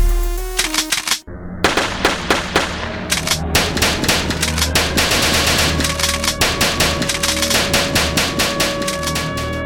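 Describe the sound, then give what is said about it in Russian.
Rapid bursts of automatic gunfire on the 23rd floor of a skyscraper, with sharp individual shots, a brief pause early on, then sustained rattling fire continuing loudly throughout, no voices. “На 23-м слышны выстрелы.”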